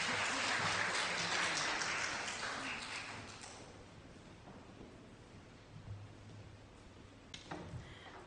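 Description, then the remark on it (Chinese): A crowd at a Christian gathering bursts into loud, dense applause welcoming a woman called up to the front. The applause fades over a few seconds into a quieter murmur, followed by a brief scatter of claps and knocks near the end. “我們鼓掌歡迎她。”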